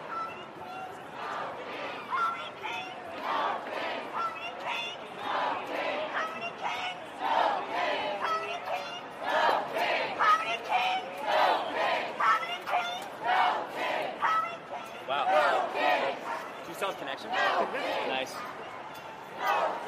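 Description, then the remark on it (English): A large crowd of No Kings protesters in Chicago chants loudly in a steady, rhythmic cadence, voices rising and falling in repeated bursts that continue without pause for the whole stretch. “We're about to join the crowd.”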